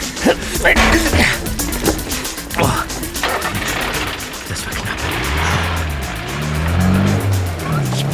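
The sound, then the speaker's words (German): A small truck rumbles and clatters, then its engine revs up with rising and falling tones as it pulls away, loud throughout. “Er geht zu dem kleinen Laster.”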